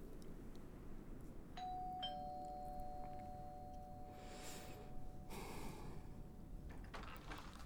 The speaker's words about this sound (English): I'm ringing the doorbell now.